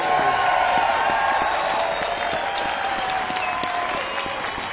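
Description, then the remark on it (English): A crowd gives a standing ovation, dense, steady clapping that stays loud throughout, with a faint wash of cheering voices blended into the applause. “Let's give him a standing ovation.”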